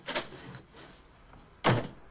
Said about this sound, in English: Alfie rushes to the door, which he opens and heads out of.